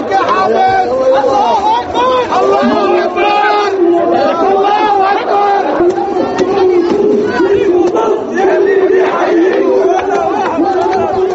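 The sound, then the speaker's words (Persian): A large crowd of protesters in Beirut, Lebanon, chants 'Allahu Akbar' while burning Russian and Chinese flags, loud and continuous, many voices rising and falling in rough unison for the whole stretch. “تظاهر کنندگان در بیروت لبنان با نداهای الله اکبر پرچم های روسیه و چین را آتش زدند.”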